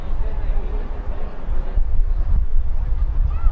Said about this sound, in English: You can hear the wind slamming into the crowd microphone. It's coming in at gusts over 23 miles an hour. 17 mile an hour constant winds in a very windy San Antonio.